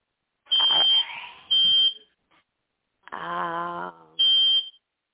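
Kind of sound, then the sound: signal or alarm, fire alarm beeping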